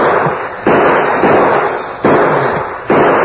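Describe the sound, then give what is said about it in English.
A volley of gunshots: four loud, sharp bangs at uneven intervals, each followed by a hissing, noisy wash that barely fades before the next shot. No one speaks. “Now, at least we got a chance to dodge some of that lead.”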